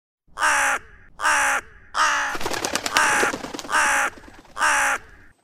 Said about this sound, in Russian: Мое безудержное веселье оборвало внезапное гулкое карканье, хлопанье крыльев и звук севшей на перила лестницы птицы.